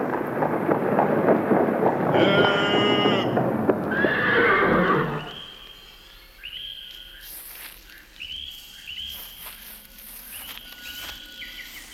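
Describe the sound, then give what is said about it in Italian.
A horse whinnies loudly in a long, shaky neigh over the first five seconds as the horses are stopped for a rest, then scattered hoof clops and insect chirps carry on quietly outdoors in a forest. “I cavalli hanno proprio bisogno di una sosta.”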